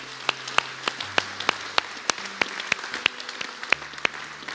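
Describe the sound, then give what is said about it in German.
Scattered applause from a small crowd: sharp, uneven claps popping out over a low steady hum, sustained at a moderate level for several seconds with no talking. “Lass mal Applaus geben.”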